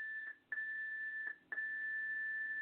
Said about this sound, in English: And take no notice of that, that's just the, we did put the timer on, but we didn't use the studio timer, so that beep that you just heard was the one that you don't normally hear. That's just a 7 minute timer there, that is viewable to me.